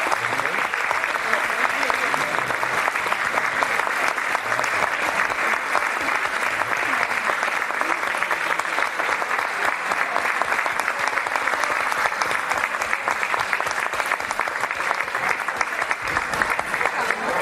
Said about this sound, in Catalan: Un fort aplaudiment.